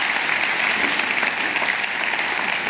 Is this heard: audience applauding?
yes